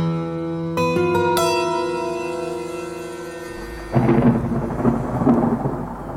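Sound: thunder rumbling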